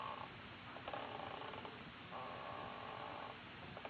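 A rocking chair, Mrs. Davis's rocker, creaks in two long, drawn-out groans, one after another, as someone settles into it for a rock, over a steady low rumbling background. No one speaks.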